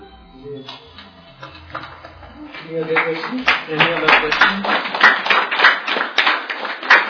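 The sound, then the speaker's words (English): A few students clap in a loose, uneven patter that starts thin and builds to a steadier burst, following a moment of low voice at the start. “Actually, I wasn't going to say it, but since a few students clapped, it gave me courage.”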